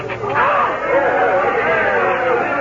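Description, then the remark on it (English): A large crowd outside the window cheers and shouts as the Duke crosses the border, in a loud, continuous roar of overlapping voices that swells early and holds steady for a few seconds, with no single voice standing out. “Judging from that crowd, the Duke has just crossed our border.”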